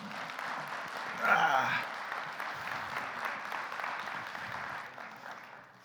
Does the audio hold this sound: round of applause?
yes